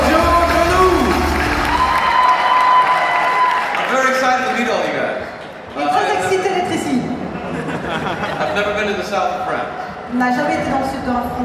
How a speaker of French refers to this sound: Je vous demande un tonnerre d'applaudissements pour monsieur James Masters.